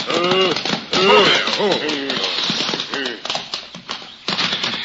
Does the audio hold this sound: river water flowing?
no